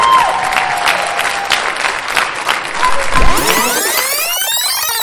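A crowd claps steadily and loudly, with scattered whoops rising over the dense applause; near the end, a whistle or sweeping high tone cuts through.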